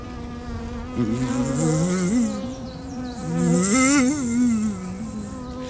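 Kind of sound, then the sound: insect, buzzing of many bees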